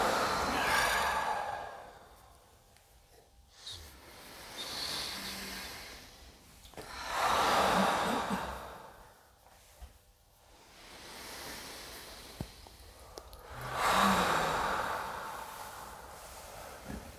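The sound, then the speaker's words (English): Slow, deep breaths drawn in and let out, three full cycles of soft airy rushing with quiet pauses between, unhurried, with no talking. “And together we can take 3 deep breaths, breathing in, letting go.”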